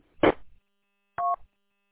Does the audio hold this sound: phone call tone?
yes